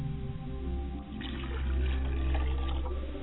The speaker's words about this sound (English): I pour a glass of water for my father's side of the family, and I say Ashe.